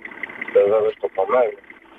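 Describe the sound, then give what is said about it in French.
A steady, rumbling old diesel boat engine drones throughout, heard over a muffled phone line, with a person speaking over it in the middle. “Oh, t'entends le vieux moteur diesel.”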